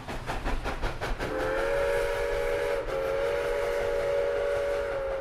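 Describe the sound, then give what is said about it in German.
A steam locomotive on the Little River Railroad and Lumber Company line in Townsend, at the foot of the Smoky Mountains, chuffs in rapid rhythmic bursts, then a loud, sustained steam whistle blows steadily over the rumbling engine for several seconds, briefly dipping before continuing. “Diese Eisenbahnlinie gehörte der Little River Railroad and Lumber Company in Townsend am Fuß der Smoky Mountains.”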